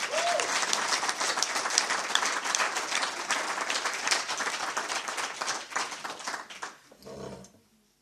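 Sustained applause from an audience, a dense steady clatter of many hands clapping that fades out near the end, followed by a brief low thump.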